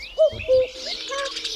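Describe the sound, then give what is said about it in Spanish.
A starling imitates a cuckoo: two clear, hollow notes, the second lower and longer, then a brief stretch of soft chattering twitter. Fairly loud, with no voices. “Por ejemplo, cuando canta el cuco y cuando le responde el estornino.”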